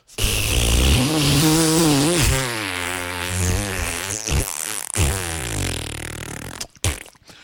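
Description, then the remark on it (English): A voice imitates explosive diarrhea with a loud, sustained, sputtering raspberry that wavers in pitch for about six seconds, then trails off into a couple of short wet bursts. “Waterfall, squirt, squirt, squirt”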